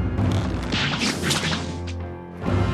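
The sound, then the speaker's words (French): A sharp slash and whip-like swish as Mulan cuts a rope, followed by rushing, clattering sounds of the rope falling to the floor, over a loud, sustained low rumble and tonal background. “Mais avant qu'il n'ait le temps de l'atteindre, Mulan lui coupe la corde sous le nez.”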